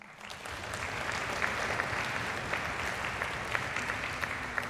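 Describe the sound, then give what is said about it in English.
Sustained applause from an audience for people being thanked fills the space, a dense wash of many hands clapping at a steady level with scattered sharper claps standing out, lasting several seconds without talk. “And I would like to thank, and I'm going to say a few other people, so you don't have to clap after everyone.”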